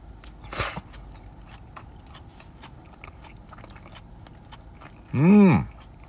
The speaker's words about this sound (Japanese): まずはこっちのレタスのポテサラからいただきたいと。咀嚼音がしますのでご注意ください。はい、いただきまーす。